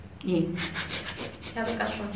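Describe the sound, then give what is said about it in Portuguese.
Rapid, forceful bhastrika breaths driven by the diaphragm pump in a steady rhythm, several per second, fairly loud, with a voiced hum carried through parts of the sequence. “Explicar o que é Bahástrica. Não é? Você faz, é uma respiração muito rápida, feita pelo diafragma, não é?”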